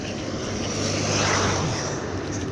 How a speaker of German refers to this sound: So im 2-Minuten-Takt kommen hier über mir die Flugzeuge her. Jetzt, wo ich auf der Straße laufe, interessant anzugucken.